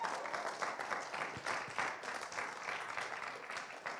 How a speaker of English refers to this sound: I like how you clap for yourself. That's pretty. That's awesome. You're honoring the positions.